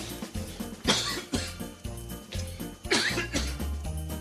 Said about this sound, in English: Did the cough button work? No, it doesn't work. So you're just... So I'm rolling 4 feet to the left to cough because our cough button doesn't work.